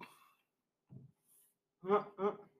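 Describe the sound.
A loud belch in two throaty voiced bursts, one right after the other, preceded by a softer low grunt and a faint breathy sound.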